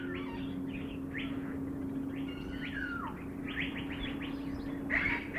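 Many birds in an aviary recreating a tropical rainforest chirp and warble continuously, overlapping calls and short whistled phrases filling the air at moderate volume, with a steady low hum running underneath throughout.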